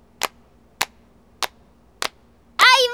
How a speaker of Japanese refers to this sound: はい、じゃあ行きます。 はい、じゃあ手拍子お願いします。